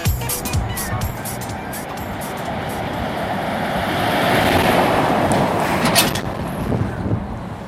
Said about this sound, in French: Alors, il y a déjà deux voitures qui viennent de me passer devant. On est jeudi 18 février, jour de marché. Et je me situe juste à la sortie de la chapelle en Vercors, direction Vassieux.